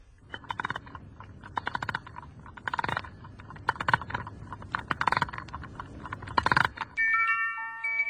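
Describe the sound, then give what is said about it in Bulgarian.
A key winds the clockwork mechanism of a toy nightingale covered in diamonds, rubies and sapphires, in bursts of dry, rapid ratcheting clicks with short pauses between turns. Right at the end, a bright, tinkling mechanical melody starts up. “Тук има и ключа, Ваше Величество. Сигурно трябва да се навие.”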